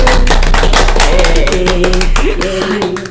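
A few people, staff of a food marketing department and a marketing department, clap together in a quick, uneven patter of sharp hand claps, steady and loud for about three seconds, with a tuneful melody playing underneath, on the day the Valentine Chocolate Exhibition 2023 opened.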